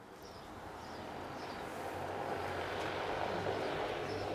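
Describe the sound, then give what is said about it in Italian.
A pilotless passenger drone, able to carry 200 kg or two passengers, flies at Ambrì airport with a steady, fairly soft whooshing hum of rotors, growing slightly louder over a few seconds, with no voices. “Notate la qualità del suono, il silenzio di questo veicolo che, ripeto, può portare 200 kg o 2 passeggeri sospesi nell'aria.”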